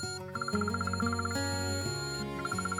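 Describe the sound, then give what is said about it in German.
An electronic alarm clock rings at 6:15, with quick, steady beeping layered over a sustained melodic tone, loud, pausing briefly in the middle before the beeps resume. “Der Wecker zerreißt die Stille der Nacht”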